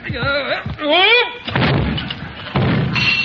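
Strained, groaning grunts of effort give way to two heavy, dull thumps with a gritty rumble as a weighty statue of Caesar, knocked off and missing its nose, is lifted back onto its pedestal.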